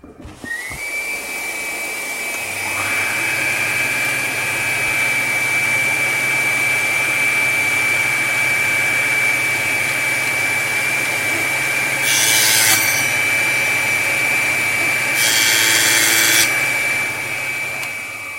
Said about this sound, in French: Donc un fémur de bof, une machine. C'est ça. Un aspirateur. Ah, l'aspirateur est relié. Oui, très important l'aspirateur. Attention, ça va faire du bruit.